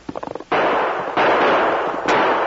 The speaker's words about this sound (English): He fired several more shots over his shoulder while retreating at top speed. His bullets glanced off the rock, kept the gunmen from exposing themselves to shoot back.